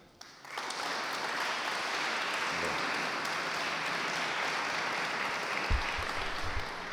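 A crowd at a music festival in Sutri, Italy, breaks into applause for conductor Bellini after a brief quiet moment, the clapping dense and steady, sustained at an even loudness through to the end with no voices standing out.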